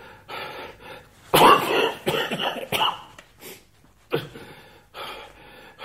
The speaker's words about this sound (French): D'oublier cette maudite toux qui m'empêche de dormir.